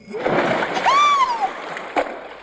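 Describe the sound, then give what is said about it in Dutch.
A loud, splattering splash as someone loses her balance and falls into a deep well of water, with a brief high-pitched cry rising and falling in the middle and a smaller slosh near the end. “kon haar evenwicht niet houden en viel in de put.”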